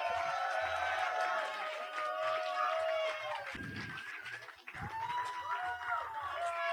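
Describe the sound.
A crowd cheers and shouts over steady applause for the act Dot Matrix Mysterio Sound, many voices rising and wavering together in a loud, continuous roar that holds for the whole stretch, with a brief dip midway.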